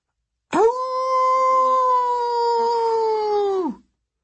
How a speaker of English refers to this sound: I got ready to defend, but before Kronos could strike, a dog's howl pierced the air somewhere behind the Titan's army.